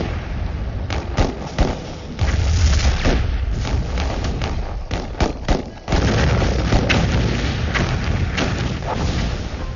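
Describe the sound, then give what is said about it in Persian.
Tank shells and mortar rounds explode on a road over and over, about every minute, amid a dense, roaring wall of battle noise, with sharp blasts and heavy thuds cracking through nearly continuously. “بچه ها به شوخی اسم این جاده رو آرام گذاشته بودن، چون هر دقیقه یک گلوله تانک یا خمپاره روی جاده منفجر می شد.”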